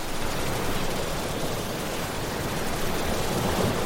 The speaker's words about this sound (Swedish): Jag har lyckats då pricka in rätt hertz här nu. Det finns ju olika white noise i olika hertz. Och min tinnitus maskeras som bäst när det är 6-7000 hertz.